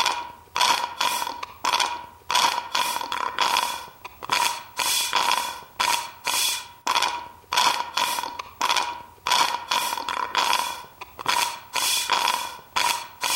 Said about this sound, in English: Maybe in after we record this, I'll put it together and we can have a little drum beat right here of your slurping. Cue the drum beat.